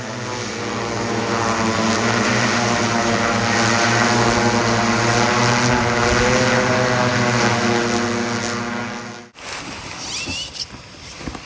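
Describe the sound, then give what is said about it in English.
Steady drone propellers whirring in flight, from the Mamba drone of the National Tropical Botanical Garden, equipped with shears to collect material from rare plants on cliff sides; a dense harmonic buzz holding for about nine seconds before cutting off abruptly, followed by a brief rustling outdoor tail. “That's the mamba, which is equipped with a pair of shears to collect material from rare plants found in inaccessible places like the sides of cliffs.”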